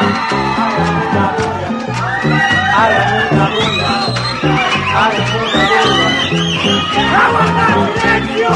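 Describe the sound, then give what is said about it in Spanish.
A group of people, told to clap and make a racket, shout, whoop and chatter all at once in a loud, continuous din, with sharp clap-like bursts scattered through it. “aplaudiendo todos, aplaudiendo todos, aplaudiendo todos, aplaudiendo todos. Hagan una bulla.”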